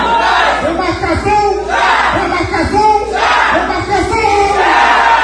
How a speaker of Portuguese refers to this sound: O encontro tem sido marcado por gritos de luta e resistência, reforçando a mobilização dos povos indígenas em defesa de direitos, territórios e políticas públicas voltadas às comunidades tradicionais.